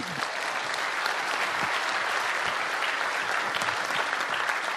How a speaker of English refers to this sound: Everyone, please give a round of applause to help me welcome Kelly McDonald.